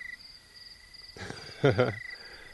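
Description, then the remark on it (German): Night sounds at Ndadi: a steady, high insect-like drone runs throughout, broken midway by a short burst of harsh, rising tree hyrax cries with a raspy, wavering tone, among calling birds, before the night chorus carries on alone. “Some birds. Vögel. And tree hylaxes making noise.”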